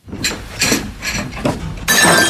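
Dishes clatter and clink in several bright bursts as someone unpacks crockery, ending in a loud crash of breaking crockery with glassy shattering; no voices.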